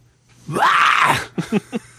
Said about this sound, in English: I think I can do just about any kind of metal screams, but like I don't think I have the stamina like vocally. Let's hear a scream.